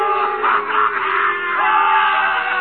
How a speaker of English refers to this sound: The crowd encouraged to jeer at the man of truth.